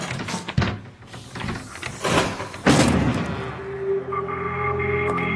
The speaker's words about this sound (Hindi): लगता है दरवाजा तोड़ना पड़ना।